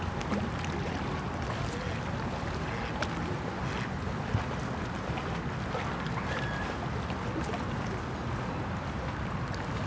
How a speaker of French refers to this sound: Un petit bateau ventru revient de la pêche. En mer, il fait son entrée dans le port en signalant son arrivée par un long coup de sirène.